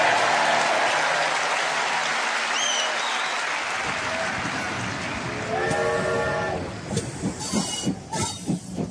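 A steam train hisses loudly and steadily, then a whistle sounds and rhythmic chuffing builds as the locomotive starts moving.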